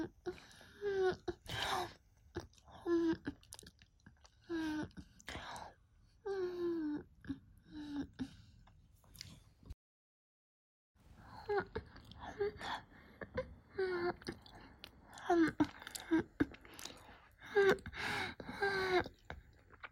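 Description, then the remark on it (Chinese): Eager kissing: rapid wet smacks with breathy moans and soft whimpers, going on almost nonstop apart from one brief pause in the middle. “亲的这么着急”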